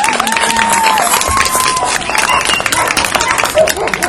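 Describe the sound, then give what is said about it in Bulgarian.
An audience at a dog show claps steadily and loudly for about four seconds for a Doberman moving in a circle, a dense wash of many hands with scattered cheers and calls rising through it, no single voice standing out. “Аплодисментите наистина са заслужени.”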